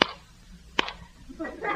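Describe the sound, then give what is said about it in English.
Two sharp, loud cracks of a thunder sound effect, spaced under a second apart, each snapping off quickly with little rumble, followed by a faint murmur of voices. “What's that? Two claps of thunder.”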